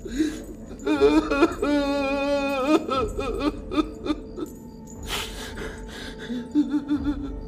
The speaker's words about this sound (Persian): توی سیاه‌چال خونه صدر اعظم کفایت خاتون و مبارک زخمی و شکنجه شده به زنجیر بسته شدن. مبارک گریه میکنه.